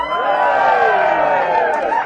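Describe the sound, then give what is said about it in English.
An audience gives a pretend round of applause, cheering and shouting loudly for about two seconds, many voices blending into a steady, high-pitched roar with little sign of distinct clapping. “So can we have a pretend round of applause?”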